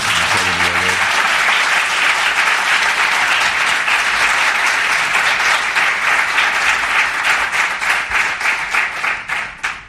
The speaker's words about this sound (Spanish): Hola, bueno, yo creo que Iñaki podría recibirlo con un cálido aplauso, ya que